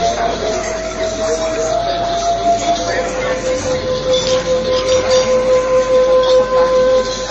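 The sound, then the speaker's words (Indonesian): A bamboo flute plays long, held notes that drop to a lower pitch partway through, sounding over a steady hiss of background noise. “Kalian dengar suara seruling itu?”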